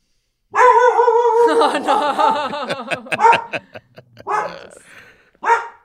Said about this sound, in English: A dog barking.